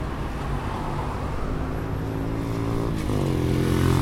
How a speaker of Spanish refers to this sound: Cuando los vehículos pasan a nuestro lado, como la moto de recién, llegan a 82 decibeles.